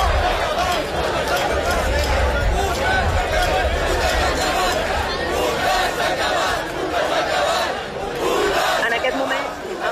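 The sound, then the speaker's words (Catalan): More than a thousand students carrying estelada flags chant and shout slogans such as "fascists out of the university" at a protest at a university, facing a group of youths with Spanish flags; a dense, continuous roar of many voices with rhythmic surges, loud throughout the whole stretch. “D'una banda, un grup de joves amb banderes espanyoles i de l'altra, més d'un miler d'estudiants amb estelades, amb crits de fora feixistes de la universitat.”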